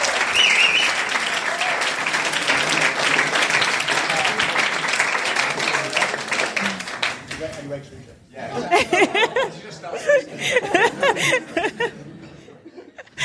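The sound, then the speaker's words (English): An audience claps steadily for a panelist, a Transcontinental Race cyclist, in a dense, sustained round of applause, with chuckles and scattered voices rising through it as the clapping thins out toward the end. “Let's give a clap.”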